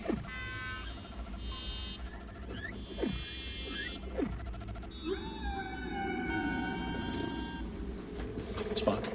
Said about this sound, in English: The probe's transmissions are the songs sung by whales. Whales? Specifically, humpback whales.